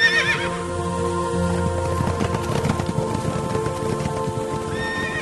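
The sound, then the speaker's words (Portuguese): A horse whinnies loudly at the start, followed by steady clip-clopping hooves and more horse sounds, with a faint patter like light rain in the background. “estavam saindo quatro carros de guerra. O primeiro carro era puxado por cavalos vermelhos.”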